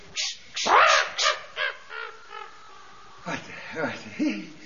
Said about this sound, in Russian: Ты не можешь согнать своей шляпы вот эту нахалку ворону? Пожалуйста.